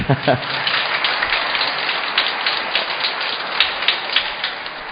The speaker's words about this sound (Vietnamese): Thì ra là hôm nay tôi được biết rồi là đã đi mừng cha xứ kỷ niệm ngày chịu chức linh mục. Xin ông bà anh chị em cho chúng tôi tràng vỗ tay.